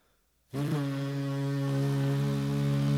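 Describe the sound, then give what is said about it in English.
After a brief silence, a voice imitates the Love Boat pulling into dock: a loud, steady, low horn-like drone that holds for a few seconds without a break. “Okay, do you do the boat pulling into the dock, right?”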